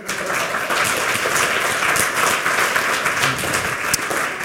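A crowd at a lightning talks event breaks into steady, sustained applause, dense overlapping claps filling the room at an even loudness throughout, with no voices standing out.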